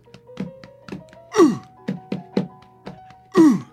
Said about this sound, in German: Ja, ich auch, aber es ist vor allen Dingen die Faust, die auf meine Brust klopft. Ja, meine Finger werden ganz wund, glaube ich.